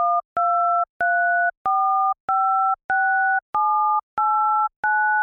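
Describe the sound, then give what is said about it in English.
Nine touch-tone telephone keypad beeps in an even, steady sequence, each a two-note chord of a row and a column pitch; the lower row pitch steps up every third button while the upper column pitch cycles through the same three pitches. “If you listen closely, you can hear how the row pitch, which is lower, changes every third button, while the same pattern of three pitches for the columns repeats on top of it.”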